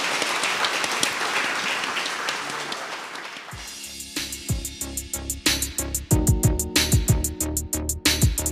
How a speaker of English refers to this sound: Thank you all so much. Please give the panel a round of applause.